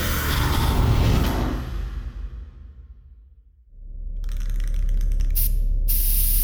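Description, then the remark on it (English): A spray paint can hisses in a long, steady burst as it sprays paint on tunnel walls, tapering off, then after a brief pause starts spraying again with a bright, sharp hiss that carries on continuously. “No one needs to see Axel was here spray-painted everywhere they look.”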